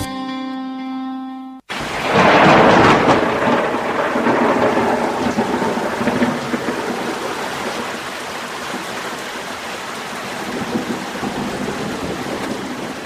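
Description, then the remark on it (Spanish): A recording of steady heavy rain used as white noise, with a deep rolling rumble of thunder that swells early and then fades into the downpour, following a brief held musical tone at the start. “Atención, no está lloviendo. Esto es un ruido blanco.”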